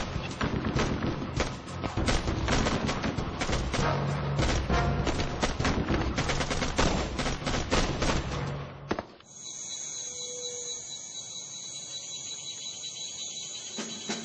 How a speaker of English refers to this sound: This time, the guards were awake. Their cover was blown. The rescuers were pinned down by enemy gunfire.